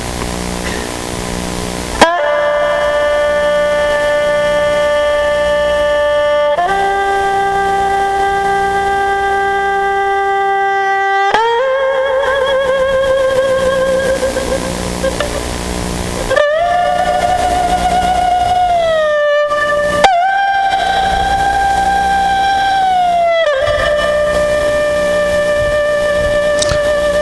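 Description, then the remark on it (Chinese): A recording of the northeast Chinese folk tune Jiang He Shui (River Water), played from a record: a loud, reedy solo melody of long held notes joined by sliding, mournful pitch bends over a low steady hum, with no voices. “江河水啊，这是当年的东北的一个民间音乐，后来发掘出来的。”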